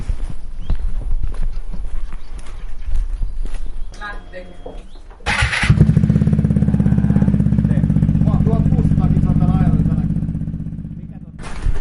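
A Vespa scooter engine sputters to life with a sharp burst after some clattering knocks, then settles into a steady, low buzzing drone that dips slightly before the end as the scooter rides off.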